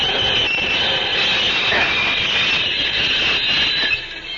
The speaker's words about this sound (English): I will stop this locomotive.